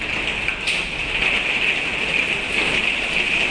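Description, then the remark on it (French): Hail falls in a steady, dense patter, a continuous hissing rattle of countless pellets striking a surface, fairly loud and even throughout with no voices. “La grêle.”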